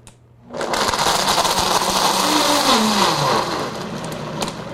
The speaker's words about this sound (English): the hardest part of it is cleaning up the blender